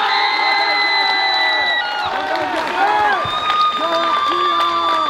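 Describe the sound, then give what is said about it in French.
An audience at a jury prize presentation claps and cheers steadily for several seconds, with whoops and excited voices rising over the continuous wash of applause. “je pense qu'on peut l'applaudir encore une fois.”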